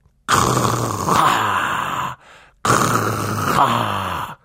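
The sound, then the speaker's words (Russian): A voice imitates loud snoring, two long, rasping, drawn-out snores with a short pause between them, forceful. “Ты сам начнешь храпеть, да как можно громче, вот так.”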